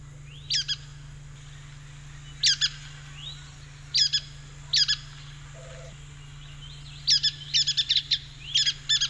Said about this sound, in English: this one is the brown-headed nuthatch. It's a tiny bird, smaller than a chickadee. It spends most of its day high in the canopy of mature pine trees. Its voice sounds something like a squeaky bath toy, as we'll hear now.